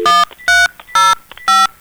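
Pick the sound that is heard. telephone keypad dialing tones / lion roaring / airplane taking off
telephone keypad dialing tones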